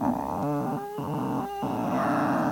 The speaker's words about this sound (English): The ship creaks.